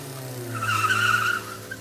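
Car tires screech sharply for about a second over a low engine rumble, a high wavering squeal rising and then cutting off as the car speeds off from a housing estate around 8 o'clock on October 30th.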